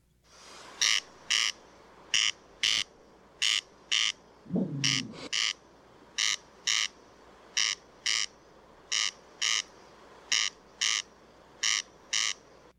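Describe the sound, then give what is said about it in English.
A corncrake (Crex crex), a bird of the rail family, calls over and over, a dry, rasping double 'crex crex' repeated steadily about once a second, with a brief lower grating sound partway through. “The corncrake, Crex crex, a bird belonging to the rail family, which is a large family that includes small, medium-sized, ground-dwelling”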